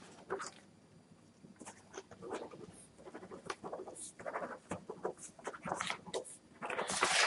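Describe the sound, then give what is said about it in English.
Irregular rustling and crinkling as someone rummages through and handles sheets of paper looking for paper, ending with a brief stretch of scratchy pen-on-paper writing. No one speaks. “Because I'm looking for paper here.”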